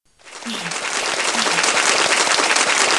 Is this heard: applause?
yes